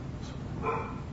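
A dog lets out a short, slightly muffled bark, heard once over a steady low background hum, with no one talking.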